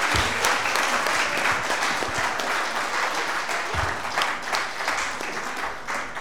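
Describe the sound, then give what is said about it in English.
Sustained audience applause for two teams after a debate, a dense wash of many hands clapping at a steady, fairly loud level throughout, with no voices standing out above it. “Give a big round of applause for our two teams today, ladies and gentlemen.”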